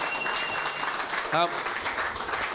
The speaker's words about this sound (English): Round of applause for Kane in the room, if we can.